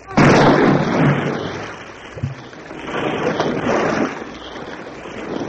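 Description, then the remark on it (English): A single loud cannon blast booms at the start, the final shot fired from a battered Chilean corvette, then gives way to heavy churning water and crashing waves that surge and rumble as the corvette sinks. “fires the final shot. And the battered, broken corvette sinks beneath the waves.”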